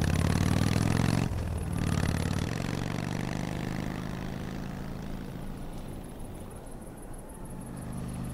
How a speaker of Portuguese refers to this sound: Ele terminou de abastecer, subiu em sua moto e continuou o caminho.